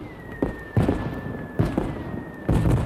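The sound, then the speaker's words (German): Fireworks going off on 1 August in densely populated areas south and east of an airport in Switzerland, in four loud, irregular booming bursts, each with a crackling tail, while a thin steady whistling tone runs faintly beneath them throughout. “Die vielen Feuerwerke und Höhenfeuer in den dicht bewohnten Gebieten im Süden und Osten vom Flughafen könnten die Piloten irritieren, stören beim Anflug.”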